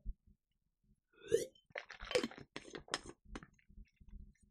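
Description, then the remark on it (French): A small sip of a Play Endurance drink: a brief slurp followed by swallowing and soft wet mouth clicks, quiet and intimate, with no talking. “Je prends une petite gorgée de Play Endurance.”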